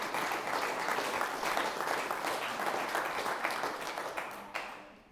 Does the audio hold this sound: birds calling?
no